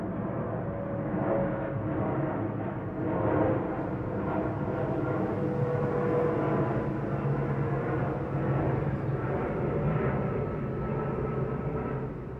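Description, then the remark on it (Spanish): A heavy, continuous roar of an airplane passing overhead above Mexico City, a steady low rumble with faint droning tones that stays fairly loud throughout, with no voices. “el metro, los aviones que pasan encima de la ciudad.”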